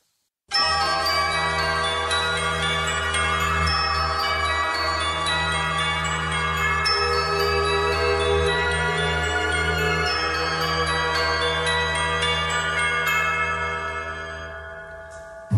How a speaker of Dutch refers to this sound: De Nederlandse … zingt over de kerkklokken met Kerstmis. Het is goed om ze te laten klinken